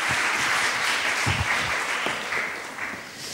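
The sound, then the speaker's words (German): An audience applauds steadily as five women are welcomed onto a stage, a dense wash of many hands clapping at an even loudness throughout, with a few low thumps scattered in but no voices standing out. “Applaus.”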